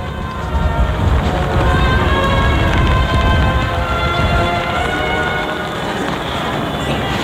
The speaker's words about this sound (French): Cependant que le vent se lève avec plus de violence que tout à l'heure et que la pluie continue.